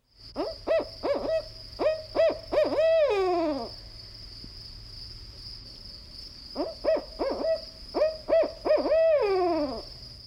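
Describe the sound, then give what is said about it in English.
A barred owl's hooting song rings out twice, each a rhythmic series of rich hoots ending in a drawn-out, descending call, with a steady insect-like whine in the background. “A common representation of the barred owl's song is, "Who cooks for you? Who cooks for you all?"”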